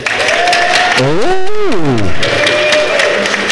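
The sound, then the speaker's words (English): An audience claps steadily to vote for the contestant they think was best, a dense, even patter of many hands. Midway, a swooping vocal cry rises and falls over the applause for about a second. “I want you to clap again based on who you think was the best.”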